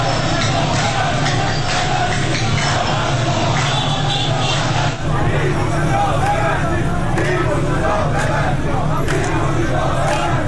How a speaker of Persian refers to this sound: ویدیوهای منتشر شده از این تجمع در شبکه‌های اجتماعی نشان می‌دهد که گروهی از کسبه و مردم در خیابان‌ها با سر دادن شعار ببندید ببندید از صاحبان کسب و کارها و مغازه‌ها خواستند که به تجمع اعتراضی آنها بپیوندند.